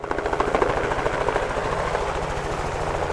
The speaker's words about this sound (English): A helicopter flies above the snowy open hills in the Grovant Wilderness in Teton County.